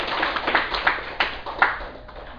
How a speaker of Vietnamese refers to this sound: Xin quý vị vỗ cho một tràng vỗ tay.